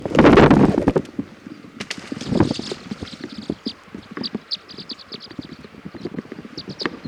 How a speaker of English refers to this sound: I'm going to throw a rock at the tree to get the flock to fly.